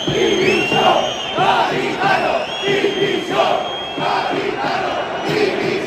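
A football crowd at a Spanish second-division match between Cádiz and Real Sociedad B chants loudly in unison "Garitano, dimisión", calling for the Cádiz coach's resignation, the same short phrase repeated in steady rhythmic bursts of massed voices with no pauses.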